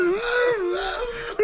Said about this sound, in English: I'm trying to breathe before I burp. It's like an engine that's trying to start.